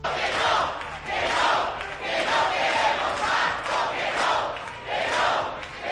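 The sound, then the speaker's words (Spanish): A crowd of Podemos supporters in Barcelona chants and shouts in unison for Pablo Iglesias, the loud roar rising and falling in a steady rhythmic pattern, roughly one swell per second, sustained throughout. “Si escucha el clamor de sus seguidores...”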